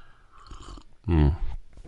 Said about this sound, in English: I hope you don't mind me slurping, but gosh, that you have to have some sound effects.